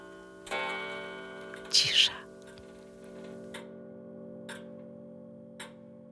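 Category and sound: household object, pendulum clock ticking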